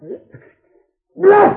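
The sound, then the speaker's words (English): A loud, drawn-out voiced sneeze from a person with a bad cold bursts out after a soft murmured sound and a brief pause, lasting under half a second with a strained, tonal quality. “Gesundheit.”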